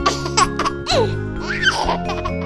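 A baby laughs in short, bright bursts and squeals, with rising and falling pitch, fairly loud, with no talking.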